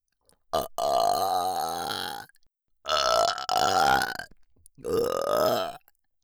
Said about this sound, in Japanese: 最初のご挨拶代わりのゲップは、さっきサロンでお肉たくさん食べてきたから、それの匂いも混ざってるかもしれないけど。 私たちパラサイトがゲップしやすい生き物でよかったね。